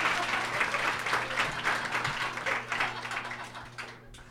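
Audience applause for Leonard Maltin fills the whole stretch, a dense, steady patter of many hands clapping at moderate loudness, thinning slightly toward the end; a faint low hum sits underneath.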